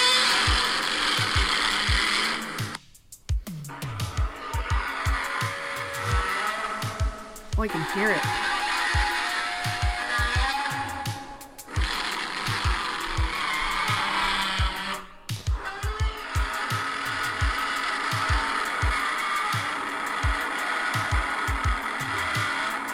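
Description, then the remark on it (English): A harsh, grinding monster roar made by rubbing a resin-covered leather glove over a bass, full of rapid rattling low pulses, sustained loudly with a few short breaks while a voice briefly speaks. “That is fucking sick, knowing that's a resin-covered leather glove over a bass.”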